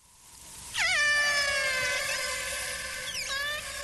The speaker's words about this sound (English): Well, these are the sounds of the AT-1 pod of killer whales in Prince William Sound, Alaska, threatened with extinction in part because of the Exxon Valdez spill.